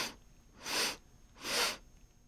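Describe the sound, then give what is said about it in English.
Three short sipping inhales through the nose during a breathing exercise with an egg, soft breathy hisses spaced evenly about three-quarters of a second apart, the first clipped short, with no talking in between. “Again, 3 sips, pull the egg in.”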